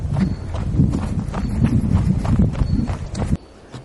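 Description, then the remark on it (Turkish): Quick, steady footsteps hurry along outdoors through a fossil forest toward more fossilized trees. Each step is a dull thud with a faint crunch, keeping a brisk rhythm for about three seconds before stopping abruptly. No voices are heard. “Belki de birazcık koşur adımlarla gidelim.”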